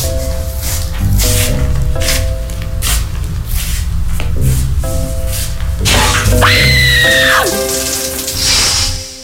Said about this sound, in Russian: Холодный душ на Радио Пассат.